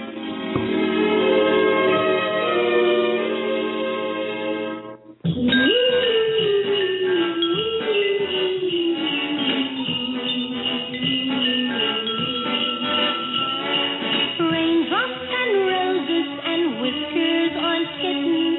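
A Motown girl-group Christmas song plays loudly, opening with bright, chiming instrumental notes, then a brief pause before a lead vocal melody carries on over a full, steady band.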